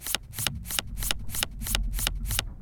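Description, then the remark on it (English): A deck of playing cards is shuffled for a game of Texas Hold'em, a rapid run of crisp riffling bursts repeating steadily for a couple of seconds, with no voices. “Deck of cards. Shuffled.”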